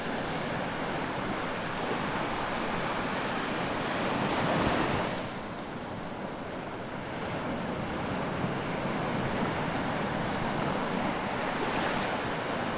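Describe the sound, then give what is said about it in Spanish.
Ocean waves break and wash in steadily, a broad continuous rush of surf with one fuller swell swelling up midway before settling back into the even roar. No voices are heard. “Ahora piensa que cada ola que llega te trae paz y cada ola que se va lleva contigo cualquier cosa que te moleste o te haga sentir pesado.”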